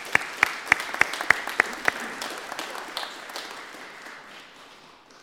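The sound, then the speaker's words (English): Audience applause for a woman who has just shared her story: a crowd claps steadily while a few sharp, loud claps ring out in a quick regular rhythm at the start, then the clapping thins and fades away. “Can we give her a round of applause for sharing the story?”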